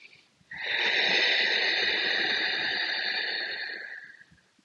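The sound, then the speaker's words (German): A single long, forceful exhale made with the mouth closed and a narrowed glottis, like fogging a mirror, a steady breathy hiss lasting about four seconds before trailing off, with no talking. “Du möchtest den Mund leicht zu öffnen und dann dieses Geräusch von, als würdest du gegen einen Spiegel atmen, zu erzeugen. Funktioniert auch mit geschlossenem Mund, dann hört sich's vielleicht so an.”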